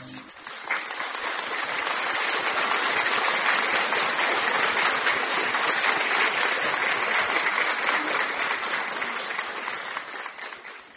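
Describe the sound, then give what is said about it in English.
A large crowd claps steadily and loudly for about ten seconds, a dense wash of many hands with faint voices mixed in before it tapers slightly at the end; an audience applauding for the Holy Spirit during a church service. “Applaud, applaud, applaud, applaud, applaud. Applaudis pour le Saint-Esprit.”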